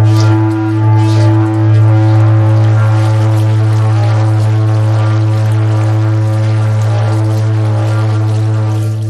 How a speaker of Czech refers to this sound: To má takovou sílu, že se zde vytvářejí i kavitační bubliny, to roztrhává tu vodu. A když se s tím hraje trochu nešetrně, tak se utrhnou ty ucha. Tak to byla krátká ukázka toho, jak zní vodnářský zvon.